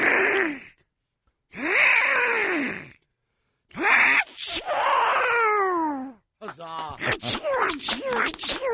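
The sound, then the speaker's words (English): A raspy, quacking Donald Duck voice gasps through several rising wind-ups, then bursts into a sneeze and trails off in rapid sputtering quacks. A single loud performer imitates Donald Duck's sneeze. “Can we hear a Donald Duck sneeze?”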